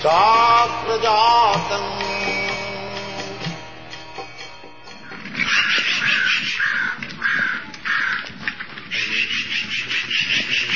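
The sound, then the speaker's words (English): Crows caw repeatedly and loudly in harsh, rhythmic bursts, with several birds calling and overlapping, heard on a morning walk in San Francisco, California, in June 1975. Earlier, a sustained tonal drone with wavering harmonics sounds beneath. “There is crow.”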